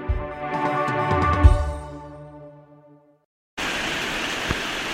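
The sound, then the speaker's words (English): A sustained musical chord fades into a brief silence, then a steady, dense hiss of falling rain begins abruptly and continues evenly to the end. “I think it's raining.”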